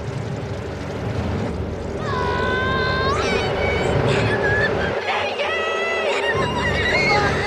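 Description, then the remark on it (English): A bee buzzes loudly, its whining drone swooping up and down in pitch as it zips away and upward, over a dense rumbling background throughout. “A bee descends from the swarm and lands on top of Nick.”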